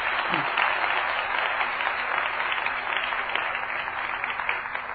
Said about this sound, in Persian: بگو ببینم خواهرم. آفرین بر تو، لطفا برای بنده شایسته خدا کف بزن.